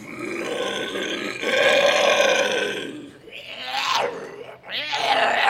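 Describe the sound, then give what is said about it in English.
Loud, harsh scare vocals by haunted house actors: a long, raspy roar-like growl gives way to rising, strained screeches that sweep upward in pitch, with one short break before the final shriek. “We do screeches that really reverberate in the vocal box, and that really tends to cause some stress.”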